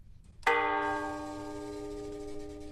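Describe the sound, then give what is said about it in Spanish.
A church clock bell that strikes the hours is struck once by a mallet pulled by a cable system, giving a sharp metallic clang that rings on with a rich, slowly fading hum over quiet background noise; the bell is heard across nearly the whole valley. “que es la que nos da las horas por medio de un sistema de sirgas, pega en el mazo que pega la campana y se oye por todo el valle casi, vamos.”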